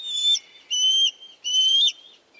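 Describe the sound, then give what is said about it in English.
A juvenile bald eagle, not long out of the nest, gives three loud, high-pitched whistling calls, each lasting under half a second and evenly spaced, with no other sounds around them. “National symbol though it may be, this juvenile bald eagle, not long out of the nest, is anything but graceful at the moment.”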